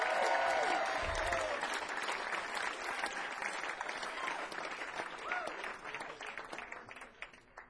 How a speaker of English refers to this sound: Give Chris Searles a big, big round of applause. Come on.